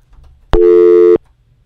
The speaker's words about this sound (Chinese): 好，因为电话线的关系断了线，很快回来我们就会跟他谈下有关这一方面的问题。